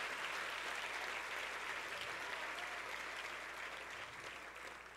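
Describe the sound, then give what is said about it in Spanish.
Sustained applause from an audience, a dense wash of many hands clapping at once, steady and fairly loud, tapering slightly toward the end with no one talking over it. “Si usted quiere aplauda y si no, no, en serio.”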